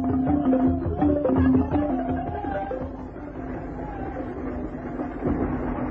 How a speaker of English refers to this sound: One day, while one of these porters was out with Grogan, acting as gunbearer, they saw a train speeding across the desert.